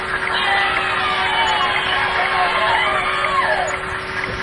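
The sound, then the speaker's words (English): A crowd cheers and whoops in a dense, continuous wash of overlapping voices, staying loud and steady for the whole stretch, with a thin constant hum running beneath. “That's not the kind of cheering I like to hear.”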